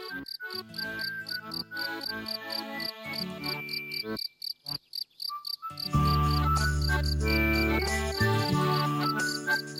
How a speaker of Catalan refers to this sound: I des d'aquell cas tan bonic, que el grill ja mai més s'espanta i per això sempre canta sense parar, ric-ric, ric-ric.